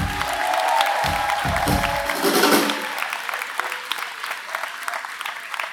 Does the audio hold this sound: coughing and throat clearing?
no